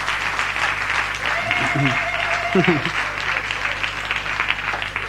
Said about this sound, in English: How many of you were at the pageant last week? Wasn't that phenomenal? Our people deserve a huge round of applause.